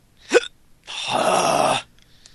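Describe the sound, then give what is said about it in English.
A single sharp hiccup, from a bout of hiccups that has lasted all day, pops out abruptly, followed by a longer breathy exhale that fades away; no one speaks. “And find a way to stop those hiccups, please.”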